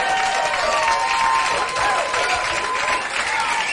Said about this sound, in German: Richtig, hier kommt ein Applaus.